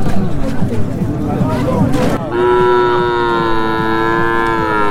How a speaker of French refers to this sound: Jour de transaction au marché de bétail de Kaya. Ce gigantesque parc animalier renferme entre autres des bœufs, des moutons et des chèvres dans des enclos ou attachés les uns aux autres.